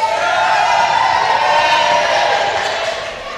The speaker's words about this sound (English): Excellent. We had some cheering, we had some clapping, we had some jumping and hugging, but a lot of people just sat there.